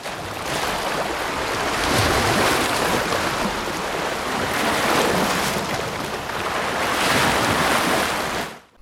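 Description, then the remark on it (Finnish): Broad, steady roar of sea waves breaking on a shore, swelling in slow surges around two, five and seven seconds, with a wash of hiss filling the whole scene and no voices. “Meri kuulostaa leveältä, ihminen kuulostaa pistemäiseltä.”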